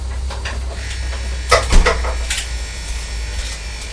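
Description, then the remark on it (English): A toaster hums steadily and quietly while toasting bread, with a few soft ticks and crackles scattered through the low drone, and no one speaking. “And the toaster's making a noise now, isn't it?”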